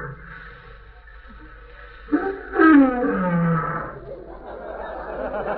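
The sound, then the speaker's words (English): A Pekingese dog at a trading post growls fiercely, a loud, rough snarl that flares up suddenly and rumbles on for about two seconds before trailing off into a low, noisy background. “Yeah, kind of friendly for a Pekingese.”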